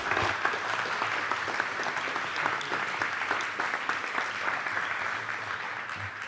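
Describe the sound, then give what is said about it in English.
Sustained audience applause, a dense steady wash of many hands clapping at an even, fairly loud level for the full stretch, with no voices rising above it. “Could we also do another round of applause for all of those that have served with the lunches and the other New Day, Spring Away, Alpha courses, marriage courses.”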